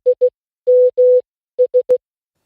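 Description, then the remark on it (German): A steady electronic tone beeps out a Morse pattern, three short, two long, three short, spelling SMS: the classic Nokia mobile phone text-message alert, clear, with no voices. “Es ist der SMS-Klingelton eines Nokia-Handys. Und letztendlich heißt dieser Morsecode nichts anderes wie SMS.”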